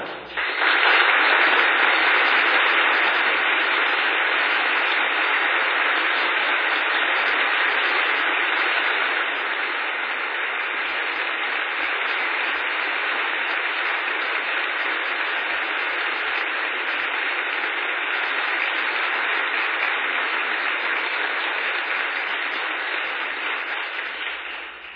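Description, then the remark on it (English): Sustained applause from a large crowd fills a reverberant church during an ordination of three men to the priesthood, steady and dense for about 25 seconds, slightly fuller at the start before settling into an even roar of clapping with no talking. “I hear in that applause a mighty yes.”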